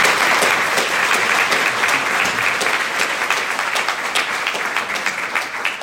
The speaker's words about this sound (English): So in conclusion, thank you again to our three guests this afternoon for coming up and talking. We really appreciate it. If we could all give them one more round of applause as a group.